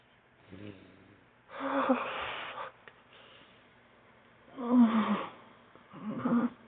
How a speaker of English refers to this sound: I hear you panting as you fuck me so fucking hard, so fast. Those grunts that you give.